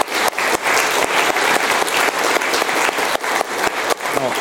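A crowd applauds steadily, dense clapping from many hands filling the room at a consistent loud level, with no talking over it.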